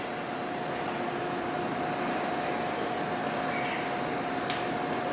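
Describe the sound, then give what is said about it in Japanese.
Steady, even hum of a train idling at the platform of Nagano terminal station, due to depart back at 17:28 for Myōkō-Kōgen, with a faint sustained tone and a couple of soft clicks; nobody speaks. “この列車は折り返し17時28分発妙高高原行きです。”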